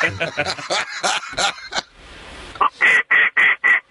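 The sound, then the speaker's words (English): A duck call is blown by someone parked in a driveway. It starts with a rapid run of raspy quacks, pauses briefly, then gives five loud, evenly spaced drawn-out quacks. “I'm parked in my driveway, so I'm safe to be able to blow my duck call.”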